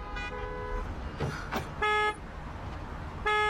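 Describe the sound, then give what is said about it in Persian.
Three loud car horn honks, each lasting under a second and spaced a second or so apart, sound over steady traffic rumble, with no one speaking. “چرا اینقدر بوق میزنی؟”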